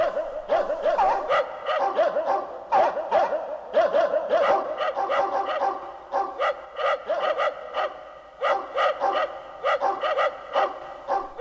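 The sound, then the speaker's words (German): Several dogs bark and yelp in rapid, overlapping bursts as they come nearer, a busy excited chorus that stays loud throughout with only brief pauses between volleys. “Der Fuchs sah die Hunde immer näher kommen.”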